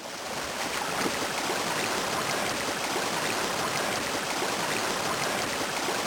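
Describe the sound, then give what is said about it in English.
A steady, heavy rush of water pours continuously from a spout into a locomotive tender, loud with a dense hiss that barely varies for the whole stretch. “Swing that spout over.”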